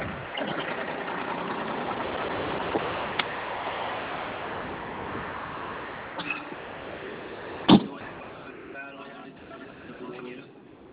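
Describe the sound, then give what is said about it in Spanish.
A car that has stopped just ahead idles with a steady, continuous rumble that fills the whole recording, broken by a short sharp clunk near the end. “Se paró un carro aquí adelante.”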